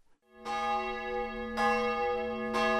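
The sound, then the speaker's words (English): A church bell tolls three times at noon in Fod, a town near Budapest, Hungary, at an even, unhurried pace, each loud, rich strike ringing on and overlapping the next. No one speaks. “Every day at noon, church bells ring”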